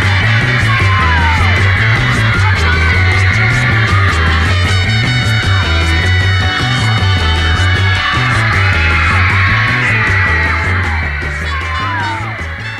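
A 1960s rock song plays loudly and continuously, with a steady pulsing bass line under bright, jangly guitars, dipping slightly in volume near the end.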